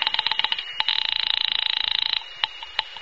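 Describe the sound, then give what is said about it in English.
A telephone rings on the other end of the line during a call to a landlady at an apartment building, a thin, rapid trilling burst lasting about two seconds, with a scatter of sharp clicks just before and after it. No one speaks. “I'll phone the landlady.”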